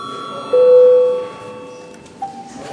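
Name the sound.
parliament session bell ringing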